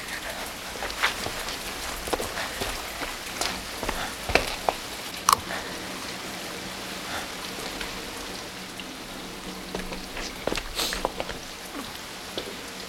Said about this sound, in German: Komm schon, es regnet.